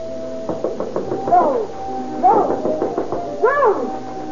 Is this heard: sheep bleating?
no